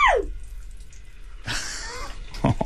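After a quiet moment, donut-ball dough hits hot oil in a deep fryer in a studio and bursts into a loud, bright sizzling hiss. The crackly frying noise keeps going to the end.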